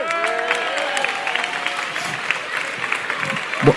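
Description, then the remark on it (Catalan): A crowd applauds steadily for the festival's pregoner (herald) as he is introduced, a dense patter of many clapping hands with scattered voices and whoops rising through it, keeping an even loudness from start to finish. “Demano un fort aplaudiment pel”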